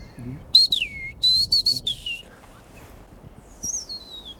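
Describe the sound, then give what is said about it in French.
A chiffchaff gives a few thin, sliding contact calls and a short burst of its repeated song notes, clear against a quiet outdoor background. “Il y a un cri de contact de poulot véloce, et d'ailleurs, il y avait le chant aussi.”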